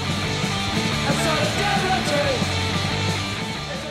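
A loud, dense stretch of a band's song plays steadily throughout, with thick layered instruments filling the sound and a possible shouted vocal, and no talking over it.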